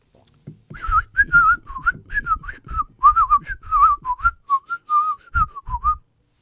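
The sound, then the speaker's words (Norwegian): A person whistles a rapid, varied sequence of short pitched notes, imitating the whistled language of a small village in Greece, with faint low thumps or handling noise underneath, fairly loud for about five seconds. “Nei, språket deres er plystring.”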